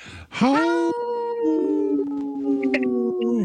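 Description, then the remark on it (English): A person gives a long, wavering wolf-like howl, loud, rising then holding steady with a few brief breaks before trailing off, then laughs. The voice imitates a wolf. “You howled and laughed. And I don't remember wolves laughing, but that was a good one.”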